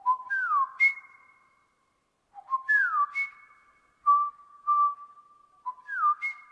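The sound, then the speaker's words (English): A person whistles a short, repeating birdlike phrase of sliding and steady tones, several times with brief pauses, imitating the song of the last male Kauai o'o, an extinct bird species. Clear, no talking. “And so I was just whistling that mixed with the mourning dove.”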